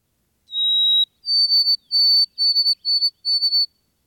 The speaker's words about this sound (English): Or the white-throated sparrow's clear, Old Sam Peabody, Peabody, Peabody.